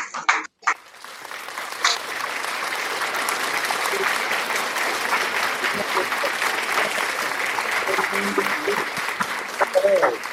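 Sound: audience applauding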